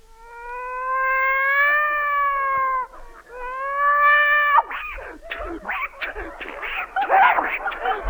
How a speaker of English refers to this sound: A cat fight.